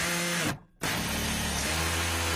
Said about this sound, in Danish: Nå, så lad os gå videre til noget, som er rigtig, rigtig godt. Yay! Nemlig lyden af en boremaskine.